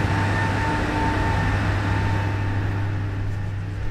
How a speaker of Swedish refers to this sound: går in i den gamla vattenkraftstationen som är igång och brummar rejält än idag.